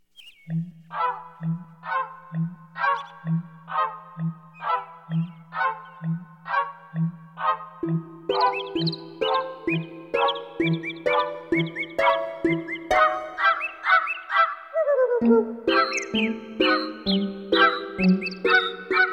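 Rhythmic chirping calls, segments of actual bird songs, repeat steadily over a low pulsing tone, then join a fuller instrumental holiday melody, a version of The Dance of the Sugar Plum Fairy, as the bird sounds weave through the tune, bright throughout.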